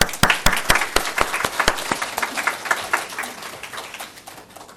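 An audience breaks into applause, a dense patter of many hands clapping with a few sharp, loud claps early on, then thinning and fading over about five seconds. No one speaks.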